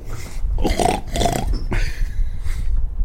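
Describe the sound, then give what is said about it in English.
A pig grunts and snorts in a rapid series of about four rough, throaty bursts, low-pitched and fairly loud, with no talking. “I know it's time for the regular putt spot on the show where we bring out my psychic pig to make its political predictions of the week.”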